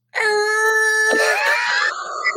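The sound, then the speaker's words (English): Truck air brakes let out a loud, sustained, high-pitched squeal for about two seconds, its pitch wavering and sliding midway with a brief noisy burst before it steadies again. No one speaks. “You can hear them air brakes.”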